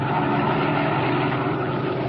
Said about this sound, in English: As our story continues today, we find him and his henchman Spike in their black sedans, slowing down along the road and searching for a likely place for what Dinelli has in mind.